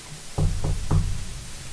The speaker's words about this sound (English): Why don't you knock on the door, for crying out loud? Let us introduce ourselves.